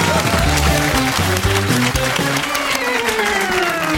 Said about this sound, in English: Give them all a huge round of applause.